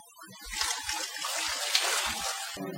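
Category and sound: household object, water poured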